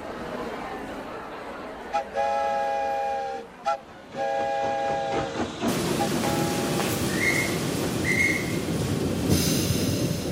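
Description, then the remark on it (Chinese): A train whistle sounds in a few sustained blasts, then a steady, loud rumbling roar of a train rolling slowly past on the tracks, with faint higher squeals over it, as the train carrying Abraham Lincoln's coffin passes through a city. “每座城市的铁路沿线都挤满了人，他们默默地站在那里，眼里面含着泪水，看着火车缓缓驶过。”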